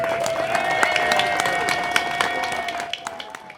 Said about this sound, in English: Please join us in giving another huge round of applause to all these fabulous winners.